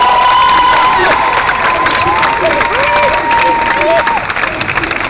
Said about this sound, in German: Aber nein, warum klatschen wir überhaupt? Das ist unnötig.